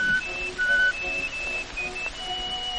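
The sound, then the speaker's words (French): Someone whistles an imitation of a nightingale's song: a string of thin, pure high notes, some held briefly, others quick chirps, shifting in pitch over a soft, steady background. “En la voyant comme ça, un rossignol chanta.”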